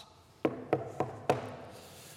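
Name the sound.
knocking on a door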